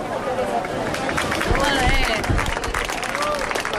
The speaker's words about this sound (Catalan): Estan sentint els aplaudiments que ha generat l'alliberament de tres tortugues babaues que van aparèixer fa prop de 2 anys a la platja Llarga, en aquesta mateixa zona.